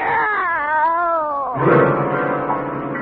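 Two cats, one brought in a big box and the other named Minerva, meow and caterwaul: a long wavering yowl sliding downward, then a rougher, denser overlapping wail taking over midway, loud and continuous with no talking.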